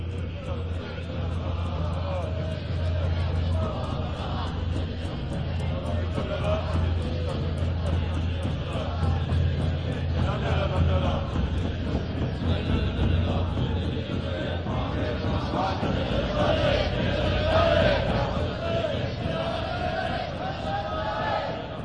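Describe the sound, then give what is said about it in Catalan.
A busy street ambience: a steady babble of many voices mixed with the continuous low rumble of engines and traffic, holding at a fairly even, moderately loud level throughout. “A Occident es destaquen els sons quotidians, com els passos, multituds, renous de motors i tota aquesta de renous.”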